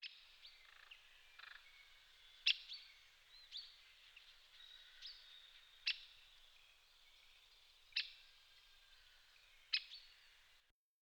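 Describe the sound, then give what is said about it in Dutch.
A forest bird's contact call rings out four times, sharp and loud, spaced a couple of seconds apart over a steady background of softer birdsong. “De contactroep horen we ook vaak luid in het bos klinken.”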